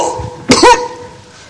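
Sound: coughing and throat clearing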